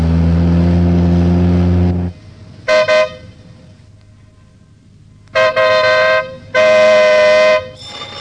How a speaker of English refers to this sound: Look out for that car!